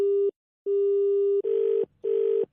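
A steady telephone dialing tone sounds in long and short bursts as someone repeatedly calls a number, then two buzzy, harsher tone pulses follow, loud with no voices.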